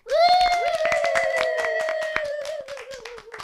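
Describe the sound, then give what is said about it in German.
Brief applause at the opening of a talk show: a quick run of sharp, uneven claps, accompanied by a long, steady high-pitched whoop that fades as the clapping tapers off after about three seconds. “Danke, Applaus.”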